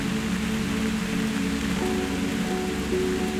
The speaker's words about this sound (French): Je dois vous laisser sous les nuages, ballottés par la douce pluie.